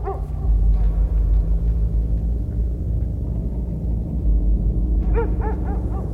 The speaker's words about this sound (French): Face à lui, un chien qui aboie.